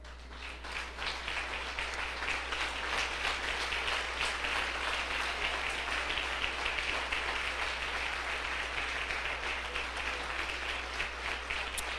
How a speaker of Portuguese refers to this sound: E eu te peço, ao finalizar esta oração, eu te peço humildemente, Senhor, que tu aceites o aplauso que o teu povo vai te oferecer.